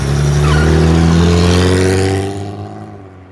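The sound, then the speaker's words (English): A BMW car engine revs loudly and accelerates, its pitch climbing before the roar fades quickly as the vehicle speeds away. “She was a very fast driver.”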